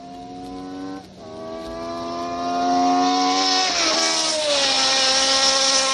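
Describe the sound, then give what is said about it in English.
A car engine roars at high revs, pitch climbing steadily with a brief dip as it shifts gears, then rising again loud and strained as the car accelerates hard on a one-mile road circuit using part of the track at Riverside, during tire testing. “we're testing on a little one-mile road circuit using just a portion of the track at Riverside”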